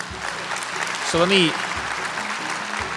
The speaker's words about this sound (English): You've got a lot of people in this crowd cheering for you when you say that.